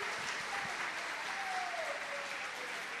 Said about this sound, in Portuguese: Você recebe isso? Então, aplauda Jesus.